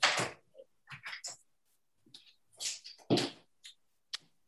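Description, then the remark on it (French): A door is handled and shut, with a few scraping, rattling bursts and a firmer thud partway through, then quiet clicks as it settles. No voices are heard. “Je vous prie de m'excuser, je vais fermer la porte puisqu'il y a un petit peu de bruit.”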